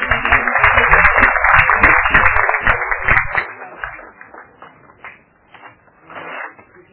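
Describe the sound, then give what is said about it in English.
The audience at a public hearing bursts into applause for a presentation, dense and steady for about three seconds, then thinning out into scattered, fading claps before stopping. “Unfortunately, in the matter of the public hearing, we do not clap, but I think the presentation like this deserves a clap.”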